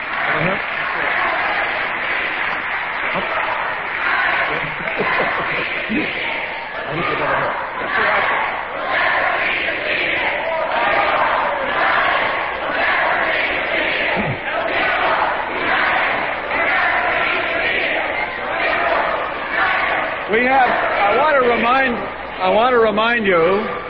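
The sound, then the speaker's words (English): Protesters in an audience at a discussion with an invited guest shout loudly and continuously, among them a woman in red shouting very loudly, a dense roar of many overlapping voices with sharp yells, and strained, sustained cries rising out of the din near the end. “I do want to remind you, particularly the woman with the red shouting so loudly, I do want to remind you that we have a guest here who we invited to engage in discussion.”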